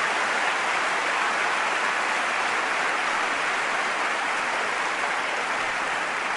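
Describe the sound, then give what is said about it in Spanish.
Sustained crowd applause during a political speech, a dense steady wash of many hands clapping at even loudness for several seconds, with no voices standing out. “Todos y todas merecen este aplauso merecido de nosotros y nosotras.”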